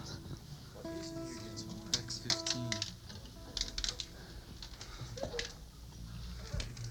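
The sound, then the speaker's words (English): Dice clatter in a string of quick, sharp clicks and taps, irregular, over a low steady hum with faint tonal sounds in the background. “Might be a dice.”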